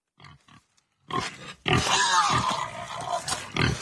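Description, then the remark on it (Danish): A pig gives two short, soft grunts, then after a brief pause breaks into loud, continuous grunting and snorting with squealy edges that runs to the end. “Lille glad grisebarsch.”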